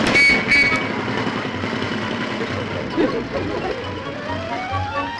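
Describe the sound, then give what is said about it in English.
A small motor scooter buzzes along, its engine droning steadily and then rising in pitch as it rides past, fairly loud throughout. “Oh, how would he ever get a scooter?”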